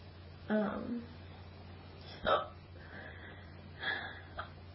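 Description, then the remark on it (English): Three sharp, abrupt hiccups about a second and a half apart, each a quick gulping catch of breath, against a quiet low hum. “So these hiccups have been making me like fast today, and I don't know if I like it necessarily.”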